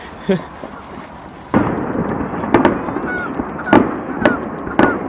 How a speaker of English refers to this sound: What other radio program brings you fireworks? Well, this is it. Well, this is something. Yeah. Blowing a whole lot of fireworks there.